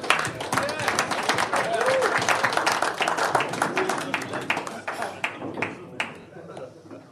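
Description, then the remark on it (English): A crowd claps for a Q&A panel being invited up, a dense, crackling burst of applause that thins out into scattered individual claps near the end, with some murmuring underneath. “Let's give them a clap, actually.”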